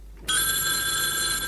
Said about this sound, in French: La sonnerie du téléphone retentit.